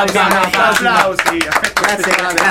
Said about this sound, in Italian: Applausi.